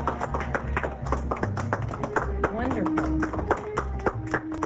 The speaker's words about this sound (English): Excellent. Nice round of applause.